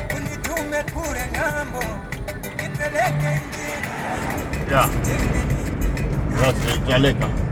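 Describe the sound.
A steady engine and road rumble from inside a car driving north out of Lilongwe, the capital of Malawi, continuous throughout, with a person talking over the noise.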